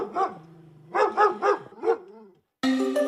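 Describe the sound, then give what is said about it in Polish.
A dog named Piast barks in a quick series of about five sharp barks, with a drawn-out whine between them, before a bright tonal jingle cuts in abruptly at the end. “Nie dano szansy temu psu.”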